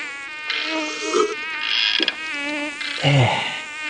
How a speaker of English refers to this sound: Ow! That gum mosquito's trying to carry me off. I nailed that one, though.